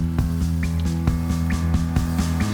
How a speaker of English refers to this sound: But drip, drip, drip, it's the rain. We like the rain. Again and again. Drip, drip, drip.